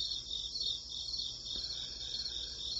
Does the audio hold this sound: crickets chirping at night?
yes